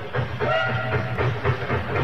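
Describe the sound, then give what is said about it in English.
A faint steam locomotive whistle from the Hotham Valley vintage steam train on its way to Albany sounds from a distance, a thin sustained tone riding over a steady low rumble of rail noise with no voices. “One lovely spring day, we pricked up our ears at the sound of a distant steam whistle, and shortly afterwards, the Hotham Valley vintage steam train beat through on its way to Albany, shoveling white steam over her shoulder,”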